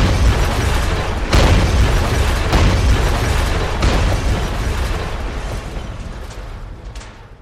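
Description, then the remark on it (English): Heavy sledgehammer blows knock down a brick house, three or four loud, dull impacts amid a continuous roar of crumbling and falling bricks that gradually fades. No voices are heard. “He went and fetched his sledgehammer, and he knocked the house down.”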